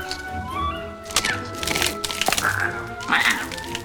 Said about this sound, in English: He gnaws the wood by the space.